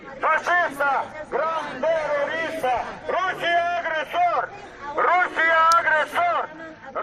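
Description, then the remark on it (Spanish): A crowd of Ukrainians living in Madrid shouts together outside the Russian embassy at Velázquez 155, in the rain and with placards, on the second day of protests against the invasion of Ukraine. Loud, rhythmic bursts of raised voices, the chants rising and falling in steady waves over several seconds. “a la embajada rusa en este segundo día de protestas por la invasión de Ucrania, donde se han concentrado un grupo bastante numeroso, por cierto, de ucranianos residentes en Madrid, bajo la lluvia, pancartas y gritos que acompañan con estos mensajes.”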